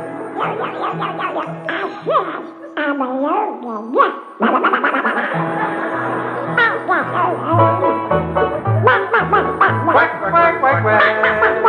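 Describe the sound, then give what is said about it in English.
A person's voice imitates a duck, producing a steady run of nasal, wobbling quacks that continue for the whole stretch, sometimes sliding up and down in pitch. “I'm a lonely duck.”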